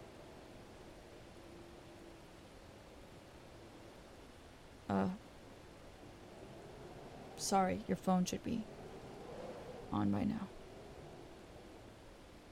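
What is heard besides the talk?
rainstorm with distant thunder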